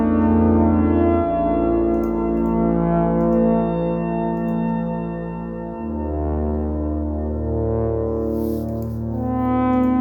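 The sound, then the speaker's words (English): An ARP 2600 synthesizer, slowed down with three kinds of echo, drones through sustained, harmonically rich chords, many of them major, that shift every few seconds, smeared into a thick, continuous wash with no voices. “It's an ARP 2600. I know nothing about it. It's slowed down with 3 kinds of echo, according to ….”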